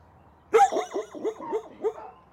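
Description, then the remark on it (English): Dogs in a row of kennels, each with a doghouse, bark on high alert at a stranger holding a microphone, a loud, rapid string of about six sharp, yelping barks after a brief quiet start, with no talking. “They see me, a stranger with a fuzzy-looking microphone, and they start doing what dogs do best.”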